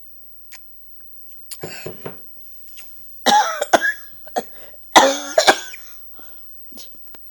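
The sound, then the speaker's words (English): Several harsh coughs come in uneven bursts, with two louder fits in the middle, plus a few short throat-clearing sounds and quiet clicks between them. No one speaks. “I think someone is here, because I cough so much.”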